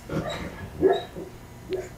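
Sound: dog vocalizing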